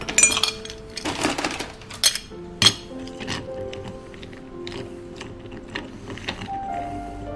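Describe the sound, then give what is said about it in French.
A chilled cocktail glass being handled by a bartender at the Harris Bar to make a Vesper, with several sharp clinks and a faint ringing tone between them, moderately loud, over soft background clatter. No one speaks. “Alors, pour faire un vesper, je vais vous prendre un verre à cocktail, légèrement rafraîchi.”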